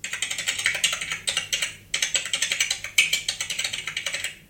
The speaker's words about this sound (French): Ça me fait penser à quelqu'un qui tape sur un clavier d'ordinateur.